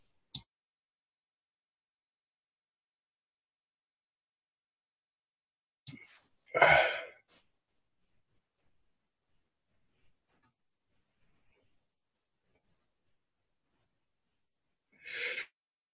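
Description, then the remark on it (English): A few sharp, explosive sneezes break up a mostly quiet stretch: a small one at the start, a louder one with a quick intake before it midway through, and another near the end. “I'm sneezing.”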